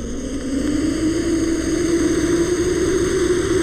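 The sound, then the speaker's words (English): A monitor lizard at the San Diego Zoo hisses: one long, steady, breathy rush of noise held for nearly four seconds without a break, loud and even, with a low rumbling undertone. No voices. “As does the monitor lizard.”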